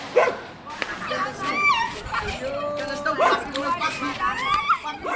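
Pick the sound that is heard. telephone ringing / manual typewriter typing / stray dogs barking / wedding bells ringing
stray dogs barking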